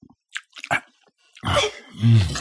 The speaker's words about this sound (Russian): Но из-под стола доносилось чавканье и причмокивание, словно кто-то торопливо ел что-то очень сочное.